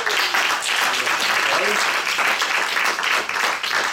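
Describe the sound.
Steady, loud applause from a group for the semester's two teaching assistants fills the whole stretch, a dense wash of clapping that never lets up, with a faint voice briefly audible beneath it.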